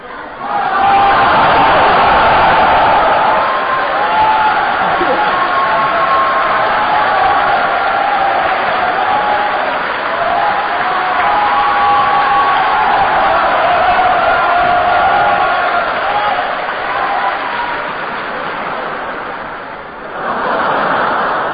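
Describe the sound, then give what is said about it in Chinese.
An audience applauds steadily for about twenty seconds after a performer finishes singing, a dense, even wash of clapping with some cheering and laughter mixed in, easing slightly near the end before swelling again. “可以鼓掌了。”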